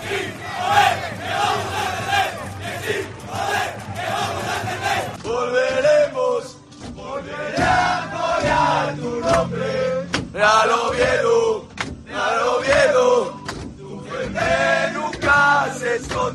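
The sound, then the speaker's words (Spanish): Real Oviedo football players loudly sing a rhythmic chant together on the bus from Eibar to Oviedo, celebrating after the match at Ipurúa, voices overlapping in a rowdy celebration punctuated by shouts and sharp claps, with no pauses. “Los jugadores cantando en el autobús, también como si fueran aficionados”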